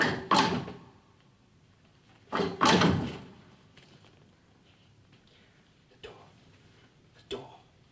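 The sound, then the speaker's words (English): A heavy secret passage door in the film Barbarella grinds into motion after Dildano lifts a lever: two loud, rumbling thuds about two seconds apart, then a pair of fainter clicks trailing off in the quiet that follows. “The door!”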